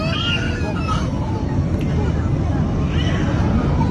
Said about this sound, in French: Voilà, autre scène de panique à l'intérieur d'un avion avec des enfants, des bébés qui crient. On nous présente ça également comme tourné juste avant l'accident de dimanche dernier